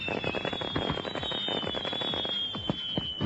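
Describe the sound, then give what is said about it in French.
Fireworks-style explosions crackle and pop in a dense, rapid flurry of sharp bursts, with a thin high whistle sliding slowly downward above them throughout. Loud, no voices. “Un programme comme ça, ça mérite bien une explosion de pixels.”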